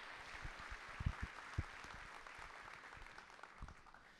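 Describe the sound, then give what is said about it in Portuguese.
A crowd applauds the women for Mother's Day steadily, a dense wash of many hands clapping at once, with a few sharper individual claps standing out over the constant patter. “Se você desejar aplaudir essas mulheres, por favor, faça isso também com muita alegria.”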